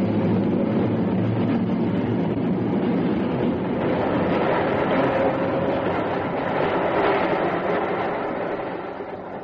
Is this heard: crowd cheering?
no